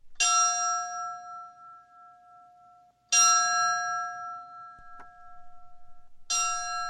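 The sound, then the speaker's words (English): A fire bell is struck three times at slow, even intervals, each clear metallic clang ringing out and fading before the next strike, rung in the traditional way to signal a firefighter down at a memorial service at Dodger Stadium, Los Angeles, for two firefighters who died battling a wildfire. No voices are heard. “A fire bell was rung in the traditional way to signal that a firefighter is down.”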